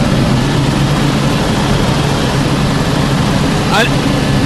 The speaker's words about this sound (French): Un hélico de ce type, c'est une consommation de quel type de carburant?